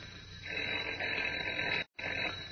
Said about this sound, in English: But as we continue now, Kent's phone is ringing again. Listen.